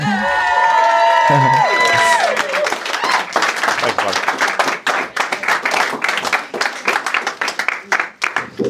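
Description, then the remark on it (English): A comedy club audience at Drop Comedy Club bursts into loud applause with cheers and whoops for a comedian coming up to the stage, settling into sustained dense clapping that fades slightly toward the end, with a brief spoken word over it. “Let's give a big Drop Comedy Club round of applause”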